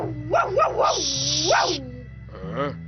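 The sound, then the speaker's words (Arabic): A dog, Baraqish, barks in a quick run of three high, yappy barks, then lets out a longer drawn bark and a final whining yelp over a steady low background hum. “أسمع كلبا ينبح، انظر من بداخل الكهف.”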